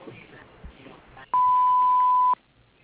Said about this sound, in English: Please leave a message after the beep and we'll get back to you as soon as we can.